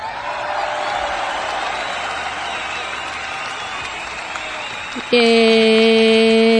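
Steady applause and crowd noise, a dense crackling wash lasting about five seconds, then abruptly replaced by a loud, sustained buzzy electronic tone.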